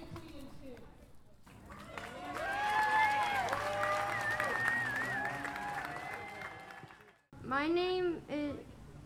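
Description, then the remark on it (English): A rally crowd of about 300 people on a lawn bursts into loud, sustained applause mixed with cheers and whoops for several seconds. It then cuts off abruptly, and the single high voice of a 10-year-old speaker begins speaking. “During the rally, it was the youngest speaker who drew the loudest applause.”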